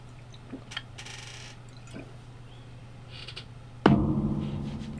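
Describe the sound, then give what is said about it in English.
Water being poured and drunk: small clicks and liquid trickles, then a sudden louder splash-like burst that slowly fades, all over a steady low electrical hum, with no talking. “I'm going to grab some water here.”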